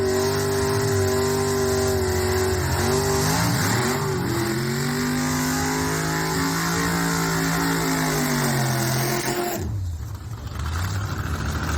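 Loud race car engines rev continuously during a warm-up before a race, their deep harmonic drone rising and falling in pitch as they accelerate, then cutting out abruptly near the end before resuming. No one speaks.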